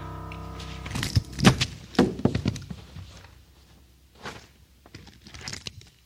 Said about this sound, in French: La porte a buzzé.